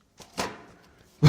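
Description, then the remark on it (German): An old 1977 issue of Geo magazine is slapped down onto a table, kicking up a lot of dust. A softer papery thump and rustle come first, then a loud, flat smack lands abruptly at the end. “hat richtig gestaubt beim Hinlegen. Ich hab mal den Knall gehört, da ist ordentlich Staub rausgekommen.”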